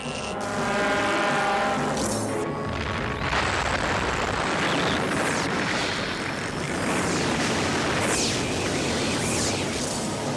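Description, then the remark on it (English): A massive explosion of 1 million pounds of TNT, a strictly chemical blast in the countryside, unleashes a loud, sustained roaring rumble that fills the whole clip, churning and surging without letting up, with no voices present. “1 million pounds of TNT will rock the countryside”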